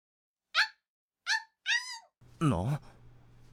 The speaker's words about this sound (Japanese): なんだ今、犬が吠えてなかったか？